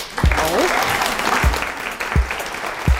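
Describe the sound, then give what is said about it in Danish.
An audience applauding steadily in a hall at the 2024 novel prize announcement, dense clapping filling the space, with a few low thumps and faint voices mingling underneath. “Der er publikum i salen.”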